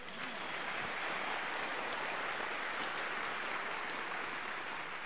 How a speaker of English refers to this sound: Can we give the Lord a clap, please?